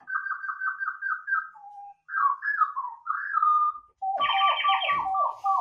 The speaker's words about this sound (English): I've got a robin.